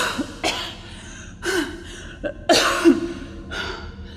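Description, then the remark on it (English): A woman coughs several times in quick, harsh bursts, with breathy gasps and deep inhalations between them, fairly loud with no talking. “She coughed and took deep breaths, savoring every oxygen-filled moment.”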